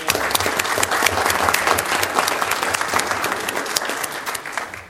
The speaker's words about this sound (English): Before we move on, let's give a little hand of applause for those who served on this committee.